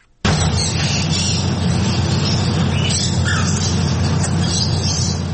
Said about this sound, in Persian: ۱۱۰ پرنده زیر یک سقف با مشتریان. ابتکار جالبی که از سوی مالک یک چایخانه در بنکاک پایتخت تایلند صورت گرفته. انواع کناری ها با رنگ های مختلف، توتی های ناطق و چند نوع پرنده در این چایخانه دیده می شوند.